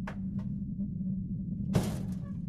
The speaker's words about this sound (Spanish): Trataba de tranquilizarme cuando el ruido de golpes en la puerta me hizo dar un brinco.